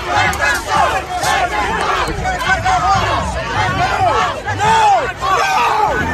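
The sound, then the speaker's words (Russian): A protest crowd outside the Capitol in Washington shouts and chants loudly and continuously while police detain someone, with many overlapping voices rising and falling in waves and sharp individual yells cutting through the dense roar. “Нет, кричат, нет, нет, кого-то винтит, полиция кого-то крутит, кто-то кричит.”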